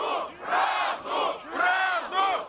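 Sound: angry crowd shouting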